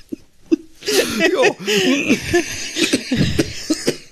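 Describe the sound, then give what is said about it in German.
A man coughs in a rough, drawn-out fit of repeated hacking bursts, loud, with wheezy breaths and gasps between the coughs. “Also ich finde, du kannst wirklich erstklassig husten”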